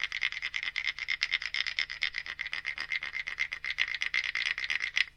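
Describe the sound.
A clave is scraped quickly back and forth over the notches of a wooden instrument, making a steady, ratcheting rasp that imitates a croaking frog for about five seconds, with no talking.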